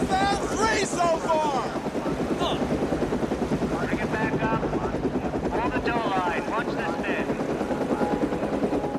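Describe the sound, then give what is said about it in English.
A rescue helicopter hovers overhead above a river shoreline as a body bag is guided up toward it; its rotor produces a loud, steady rhythmic thumping that fills the whole scene, with faint voices and calls mixed beneath the engine roar. “One of the rescue divers guides another body bag up toward the chopper.”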